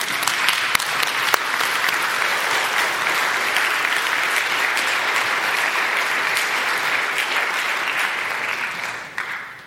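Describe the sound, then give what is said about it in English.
Sustained applause from a large church audience encouraging three people coming forward to join the church, a dense steady patter of many hands clapping for nearly ten seconds before it tapers off at the end. “It's a little intimidating to stand up here in front of this crowd, even though you're also pleasant looking, but thanks for the affirmation for them.”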